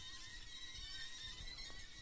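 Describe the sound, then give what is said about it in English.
Faint, high-pitched squealing cries like pigs, drawn out and overlapping steadily over a low rumbling background. Nobody speaks. “It sounds like pigs, too.”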